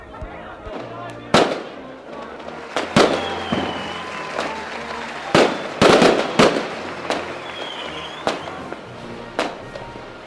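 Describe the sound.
A firework set off at night whistles upward and bursts in a string of sharp, crackling bangs, roughly seven over ten seconds and sometimes in quick pairs, spreading red across the sky, with faint crowd voices murmuring underneath.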